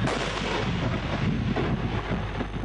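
An Israeli tank cannon firing a shot at the Israeli-Lebanese border: a heavy, rumbling roar fills the whole stretch, loud and sustained with a deep low-end boom and no distinct separate blasts, and no voices.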